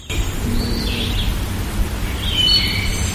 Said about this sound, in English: But I think you can also hear a lot of birds are out this morning.